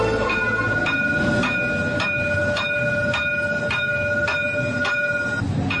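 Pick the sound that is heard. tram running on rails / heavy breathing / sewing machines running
tram running on rails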